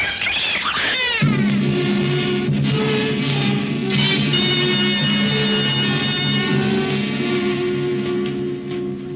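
cat meowing and yowling

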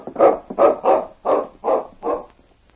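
dog barking

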